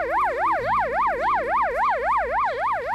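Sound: ambulance siren wailing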